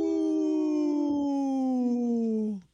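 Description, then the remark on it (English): A person imitates a young wolf just learning how to howl: one sustained, fairly loud wavering note that slides slowly downward for a couple of seconds, then breaks off abruptly. No other sounds or talking. “The little wolf that's just learning how to howl.”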